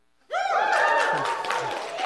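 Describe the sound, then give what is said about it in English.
A church audience bursts into loud cheering and whoops over a wash of applause, practising how to celebrate people getting baptized, starting abruptly from near silence and sustaining at full volume. “So that means we need to cheer, holler, make some noise. Let's try it.”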